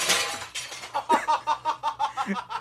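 Glass shatters with a loud, bright crash, followed by a quick run of tinkling, clinking pieces that scatter and fade over a couple of seconds.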